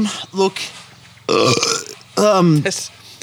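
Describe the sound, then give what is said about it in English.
A couple of loud, deliberate burps, one long and gurgling around the middle and another strained one near the end, with brief vocal sounds between them. “You nearly spewed up then in an attempt to do a gratuitous burp.”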